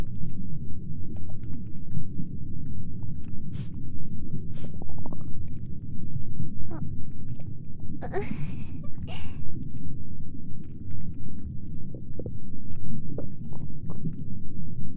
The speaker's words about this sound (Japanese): こっち出ちゃいそう。ごめんね、ちょっとうるさかった？ お腹越しのおなら。